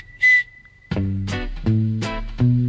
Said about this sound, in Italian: Buongiorno, dottore, come vede, sono affetto da questo grave difetto, questo fischio non m'abbandona e le donne ridono di me.